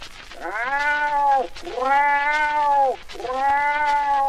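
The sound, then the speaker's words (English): A lynx, within about 50 yards, gives three long, drawn-out yowls in a row, each a rising and falling wail rich in harmonics, loud and steady with short breaks between them and no voices. “Went the lynx.”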